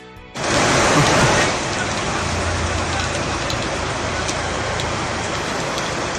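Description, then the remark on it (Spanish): A torrential downpour over part of the A Coruña area roars in suddenly and keeps up a dense, steady hiss of heavy rain, loud, with a faint low rumble underneath. “Estamos a 14 de septiembre, sonidos de este día, el del agua que cayó ayer en parte de la comarca coruñesa como un diluvio.”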